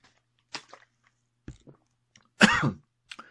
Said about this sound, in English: Right, tablet swallowed.